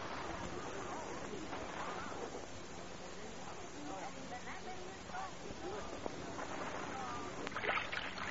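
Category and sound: vehicle, rowboat moving through water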